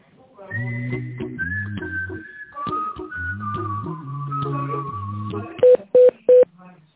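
telephone keypad dialing tones

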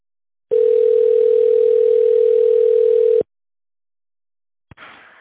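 telephone ringback tone

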